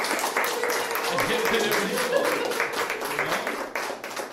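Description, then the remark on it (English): An audience at a film screening, many of whom worked on the movie, applauds steadily for a few seconds, a dense wash of many hands clapping at once with a few louder claps and faint voices mixed in. “How about a little round of applause?”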